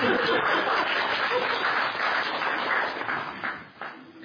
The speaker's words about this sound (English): A piece of big round of applause from my assistant